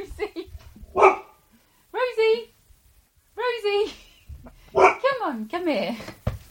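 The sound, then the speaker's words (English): A dog, Rosie, barks loudly, several sharp barks in separate bursts, while a person calls out in between. “I am not going anywhere near wherever you are right now, because that dog sounds absolutely frightening.”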